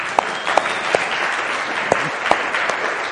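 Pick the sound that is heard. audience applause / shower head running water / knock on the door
audience applause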